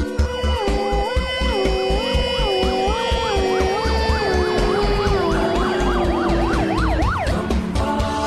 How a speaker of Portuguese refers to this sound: Vamos agora dar passagem para o corpo de bombeiro.